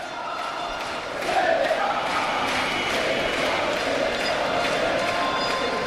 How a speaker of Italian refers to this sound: E cantano Serie A in curva i tifosi della Givova.